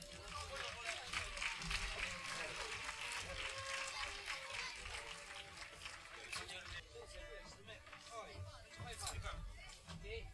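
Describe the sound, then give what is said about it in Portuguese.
Sustained audience applause at a poetry reading in Galicia as poets are called up onto the stage to read their poems, a dense crackle of many hands clapping at steady loudness, with some crowd voices mixed in underneath. “Un aplauso.”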